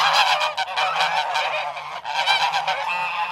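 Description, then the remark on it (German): Several geese on a pasture honk loudly and continuously, their harsh, overlapping calls filling the air with a raucous, clamoring chorus and no talking. “Nur falls jemand vorbeikam, den sie nicht kannten, dann machten sie ein Spektakel, dass man es bis zur Kirche hören konnte.”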